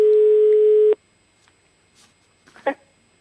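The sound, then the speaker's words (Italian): A loud, steady telephone ring tone from an outgoing call sounds for about a second, then cuts off abruptly, leaving near-silence broken only by a faint, brief noise. “Squilla un telefono?”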